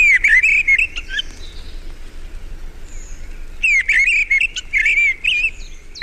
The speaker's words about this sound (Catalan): En aquest capítol heu escoltat el cant d'aquests ocells. Griva, Turdus piscivorus. Ocell de zones boscoses i camp obert que resideix tot l'any als trams alt, mig i baix.